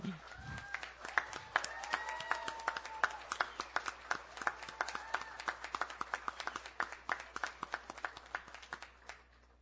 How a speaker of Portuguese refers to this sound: Então, assim, só isso aqui já merece uma grande salva de palmas, viu?